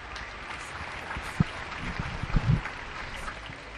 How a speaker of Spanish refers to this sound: Depende, claro, del sonido que tengamos y cómo lo captemos, y si tenemos un aplauso más cercano tapa el aplauso genérico de todo el vecindario.